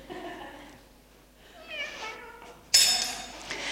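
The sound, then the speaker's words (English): Dice land on a metal grill with a sudden loud, bright clatter that rattles on for about a second, following a stretch of quieter voices and cat-like tones. “Luckily, the dice is too big to go through this grill in case you're holding, your breath.”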